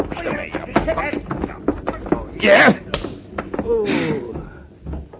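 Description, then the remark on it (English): Several dull, thudding punches land in quick, irregular succession as a man is hit during a fistfight, mixed with grunts and strained voices. “Only I shouldn't have hit this guy so hard.”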